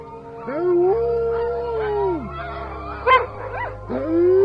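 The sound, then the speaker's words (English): Several huskies howl together in long, rising and falling overlapping wails, loud and sustained, with a few sharper yips breaking in near the end; no one speaks. “Every night, at the same time, when it started to get dark, they would all just start howling as loud as they could, and do it for like 5 minutes.”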